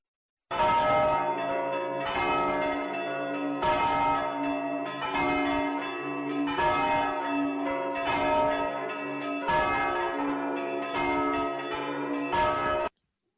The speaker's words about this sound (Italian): Bene, queste campane pasquali ci ricordano il mistero che stiamo celebrando in questo tempo, il tempo di Pasqua.